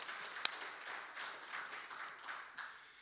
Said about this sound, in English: Thank you, United Women of Faith. Can we give them just a round of applause for their amazing event?